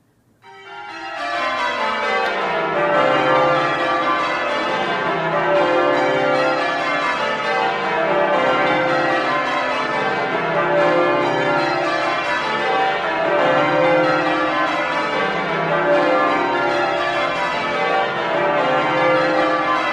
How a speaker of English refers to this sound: it's being rung on 11 bells with the last bell being fixed in place. And the bells, these bells were cast by us about 20 years after your original bells were. So this is one of the very early sets of bells that were tuned to modern standards.